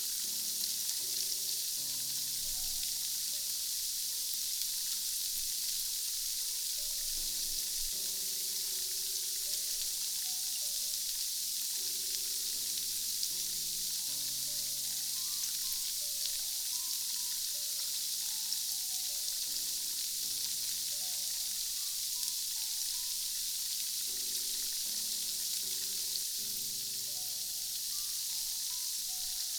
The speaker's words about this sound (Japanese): お耳の奥までシュワシュワが行き届いたでしょうか。